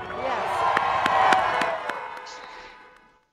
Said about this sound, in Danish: Og så klapper folk også venligt og tuder i deres horn her.